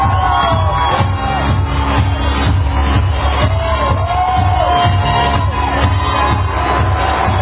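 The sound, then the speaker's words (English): A massive crowd at a rally for President Trump in Pennsylvania roars and cheers nonstop for the Trump dance, loud and dense, with high whoops and shouts rising out of the din throughout. “Cue up the massive energy, the massive crowd.”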